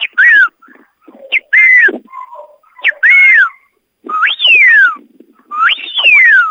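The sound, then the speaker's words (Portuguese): A series of loud, sharp whistle commands given by a trainer to herding dogs driving a flock at the Canil e Cabanha Bratislava kennel, in short bursts, some rising and falling in pitch, others sweeping down, with brief pauses between them and no talking. “E ele, inclusive, esses cães obedecem todos através de apitos, olha só.”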